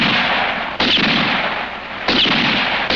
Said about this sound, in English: And so I fired again. Four shots like four fateful raps on the door to my destiny.